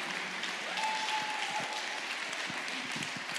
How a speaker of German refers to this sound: Klatscht mal lang, dann kann ich trinken.